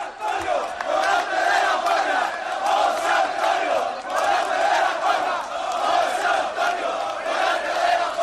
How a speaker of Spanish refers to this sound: Qué bonito. Lo llevaron desde La Maestranza hasta el Hotel Colón. Qué barbaridad. A hombros. Qué bonito la gente gritándole maestro, torero. Es que lo es. Vitoreando su nombre.